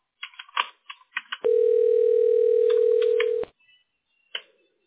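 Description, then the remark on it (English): A phone line ringing on an outgoing call: one steady two-second electronic ring tone, clear, preceded by a scatter of soft clicks and followed by a faint click, with no one talking. “And it's not ringing? Oh, it's ringing.”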